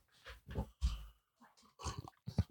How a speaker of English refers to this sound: What is she barking for? Does she pee pee? No.